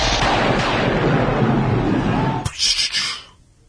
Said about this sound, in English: Should I maybe put in a... like some buzzer sound effect every time we move on to a new segment on this show? Yes, please. With the thunder sound? How about right now?